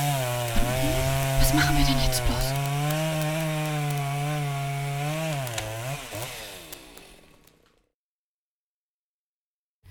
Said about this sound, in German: Eine Säge. Die Menschen wollen sich einen Tannenbaum holen. Das ist zu Weihnachten Tradition bei den Menschen. Achtung! Achtung! Sie sägen! Festhalten! Alle gut festhalten! Oh, sie haben unseren Baum ausgewählt.